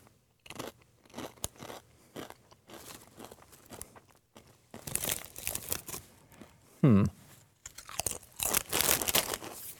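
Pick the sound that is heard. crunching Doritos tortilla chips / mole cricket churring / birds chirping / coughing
crunching Doritos tortilla chips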